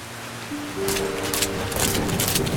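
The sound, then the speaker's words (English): A rainstorm hisses steadily, swelling in loudness after the first second with bright surges of rushing noise, while a faint low tonal hum runs underneath. No voices. “This storm came out of nowhere.”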